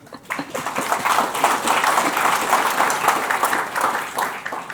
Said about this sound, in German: würde ich auch nochmal um Applaus bitten. Und dieser Applaus gilt dann auch gleichzeitig an die Mitglieder dieses Redaktionsteams, dass sie diese Aufgabe übernehmen.